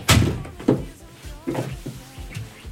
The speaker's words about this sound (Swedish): Jag kan stänga dörren.